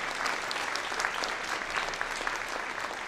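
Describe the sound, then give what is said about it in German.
A large audience applauds loudly and steadily for a violinist playing on a single string, a dense wash of clapping hands with scattered louder claps and faint cheering woven through, sustained without pause. “Und das Publikum tobt.”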